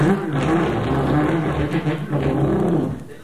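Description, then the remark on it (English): A loud, growling car engine revs steadily for about three seconds, its deep rumble swelling and dipping slightly, with no talking over it. “We got more girls with that car because girls love the sound of”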